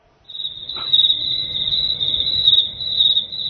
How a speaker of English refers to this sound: You can't hear the crickets on the other end, can you?